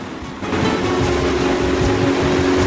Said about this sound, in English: The engine rattles into life, and Armando turns the steering control to check the aerolon flaps.